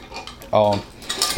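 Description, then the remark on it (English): Metallic clinks and scrapes, with one brief ringing clank in the middle, as the stiff metal springs of a trap are bent down and wedged into place. No one speaks. “Yeah, you take that, when you bend those springs down, that I do that, and then the last thing I do is remove my safety latches.”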